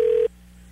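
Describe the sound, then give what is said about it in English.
A single loud, steady ringback tone heard over a phone line as a prank call is placed to Bill's Bolarama, cutting off after a brief moment and leaving a low electrical hum behind. “Oh, it's ringing.”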